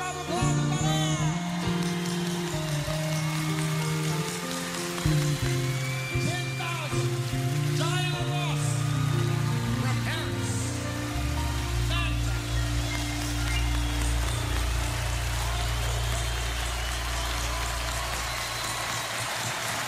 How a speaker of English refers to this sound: Did you hear that? Unbelievable. This is water. It's water. It's a river.